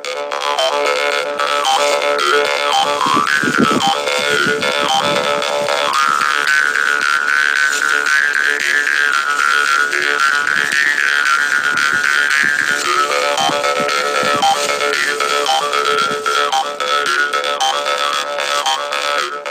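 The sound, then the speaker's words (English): A karinding, a traditional Sundanese bamboo jaw harp, plays a steady, loud, insect-like buzz, its twangy overtones sliding up and down in a wavering melody, with rhythmic plucked pulses throughout and no voices. “After a long time, finally Karinding is played as instrument to entertain farmers who are waiting their land”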